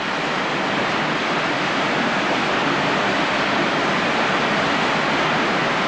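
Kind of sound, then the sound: ambience, rushing water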